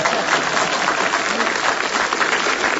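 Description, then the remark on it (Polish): An audience claps steadily for about three seconds, a dense, loud wash of many hands with no pause and no voices standing out. “Myślałem, że będą oklaski.”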